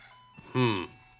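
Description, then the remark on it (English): A clock chimes a brief, bright tonal phrase, loud, lasting only a moment before fading into a quiet background hum. “Let's just think about that for a minute while this clock sings to us.”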